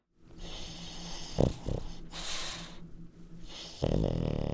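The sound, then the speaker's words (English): A small dog snores in a steady rhythm, soft snuffly breaths alternating with brief nasal snorts and a hissing exhale, quiet throughout with no one talking. “Does he snore? Sometimes he can be a bit snuffly.”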